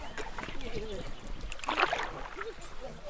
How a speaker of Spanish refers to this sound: Al día siguiente salimos por la mañana para hacer un patrullaje, cruzando el río Mocorón en un cayuco hacia el otro lado, donde inicia el bosque húmedo.